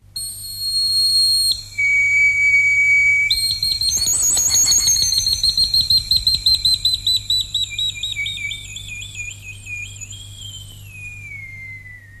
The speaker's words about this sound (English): In Roman times, bone fifes of this kind were used for calling cattle. This one dates back to the 1st century and was discovered at Augst near Basel.